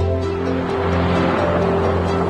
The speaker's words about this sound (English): Now a car moves down a ribbon of wintry rural road. Cars pass over an ornate bridge.